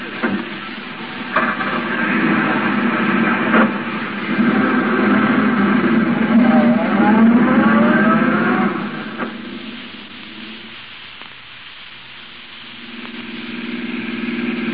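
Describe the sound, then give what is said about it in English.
A taxi cab drives along following a gray sedan, with a steady, fairly loud engine rumble and road noise that surges and eases, then settles lower near the end. No one speaks. “Yeah, that gray sedan of the chauffeur. Follow it.”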